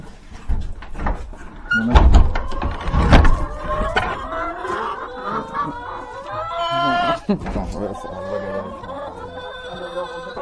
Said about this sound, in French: Regardez. Regarde, bonjour les poules.